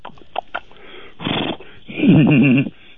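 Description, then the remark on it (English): A voice imitates the whinny of Mr. Ed the horse: a few short breathy puffs, a rough snorting burst, then a loud, quavering, pitch-wobbling neigh that cuts off abruptly. “The horse sound, Mr. Pug?”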